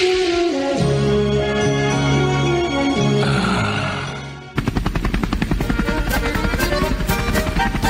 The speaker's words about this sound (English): we're up here covering this thing live from the Minocqua's Beast, the helicopter coverage here from the 1983 Muskie Masters Invitational. We're hovering right now.